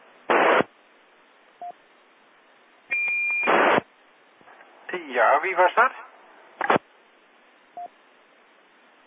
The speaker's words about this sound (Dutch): Oké, dat ging per ongeluk natuurlijk. Een piepje.